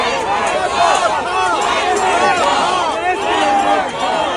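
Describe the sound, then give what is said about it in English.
A large crowd of protesters chants and shouts the refrain "Genocide Joe" towards the president together, many overlapping voices raised loudly and continuously, filling the whole scene with no pause. “Cops pulled on her shirt, forcing the protesters into the crowd as they chanted.”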